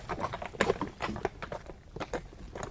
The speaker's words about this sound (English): They drove through two big gates and up a long driveway. The carriage stopped in front of a very big stone house.